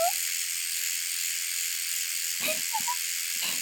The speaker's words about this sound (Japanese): 本当にずっと立って、あのさ、これ電動シェーバーだからさ、動いても大丈夫なんだよ。切れないの。